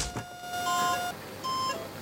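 A heart monitor beeps with steady electronic tones as a patient's heartbeat returns after cardiac arrest and repeated defibrillator shocks: two bright pulses about a second apart over a sustained high hum, with no one speaking.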